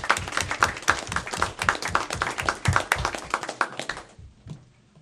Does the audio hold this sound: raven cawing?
no